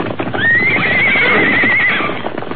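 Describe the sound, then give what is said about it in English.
A mustang horse gives a loud, high whinny that rises and wavers for over a second, while hoofbeats clatter underneath in a quick galloping rhythm throughout as mustangs, led by the white horse Silver, run out through a corral gate and get away. “Look at them travel! You'll never catch them horses again, Tobias.”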